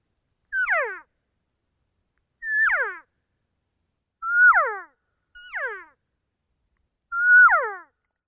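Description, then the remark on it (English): Five sample elk cow calls for practice, each a short, high, nasal mew that briefly holds its pitch and then slides down, repeated at uneven intervals with silence between and no talking. “I'll give you a couple sample cow calls that you can listen to if you want to practice on your own.”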